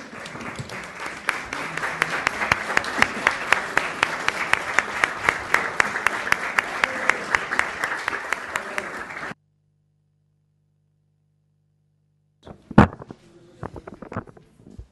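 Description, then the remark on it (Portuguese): An audience applauds steadily for about nine seconds at a session addressed to deputies, a dense wash of many hands clapping, then it cuts to silence before a few sharp sounds and brief voices follow. “Bom, então é assim, eu agora não tinha lido ainda o regulamento desta parte e estava aqui a ver se essas palmas deram um imenso jeito, porque consegui ler aqui 2 linhas.”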